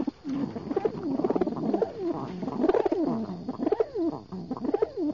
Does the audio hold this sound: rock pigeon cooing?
yes